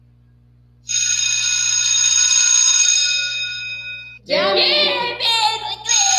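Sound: school recess bell ringing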